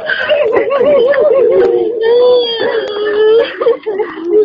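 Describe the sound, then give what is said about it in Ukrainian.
Women wail in mourning along the route of Natalia Estemirova's coffin at her funeral in the village of Ishkhoy-Yurt, Gudermes district, a continuous, wavering lament with quivering pitch bends, fairly loud, rising and falling without pause. “На шляху пересування труни обряд супроводжував жіночий плач.”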